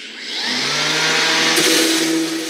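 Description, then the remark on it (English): A power router whines steadily as it hand-routes letters into a wooden sign in a sign shop, a loud hissing roar over a humming motor tone that shifts slightly in pitch midway, with no voices. “A router is a kind of power tool that can carve words or letters into wood.”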